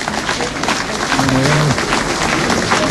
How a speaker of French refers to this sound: C'est vous qu'on applaudit maintenant?